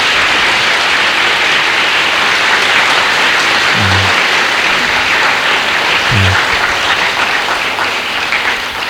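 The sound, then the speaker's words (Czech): Steady, loud applause from a sizable crowd in a hall, given to those who lent the hall, fills the whole stretch, a dense wash of many hands clapping with no voices, tapering only slightly near the end. “Tak si myslím, že když teď těm, kteří nám ten sál propůjčili ještě před tím požehnáním, zatleskáme, že to bude odměnou naší.”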